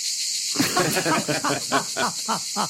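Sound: cicadas chirping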